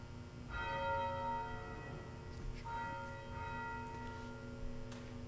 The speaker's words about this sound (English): And we also remember by tolling the bell other family members and friends who have died since the last Memorial Day, and we will ring the bell for each name.